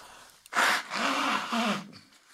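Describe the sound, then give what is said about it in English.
Someone blows their nose: a short sharp puff, then a long, loud, breathy blast with a low honking buzz, finishing with a second snuffly push that trails off. “Let me blow my nose.”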